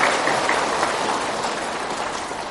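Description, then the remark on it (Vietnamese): Steady, dense applause from a large audience at a Buddhist ceremony, welcoming a venerable teacher, many hands clapping together in a continuous roar that holds at an even loudness from start to finish, with no voices standing out. “Đề nghị đại chúng chúng ta trong một tràng pháo tay thì và lớn.”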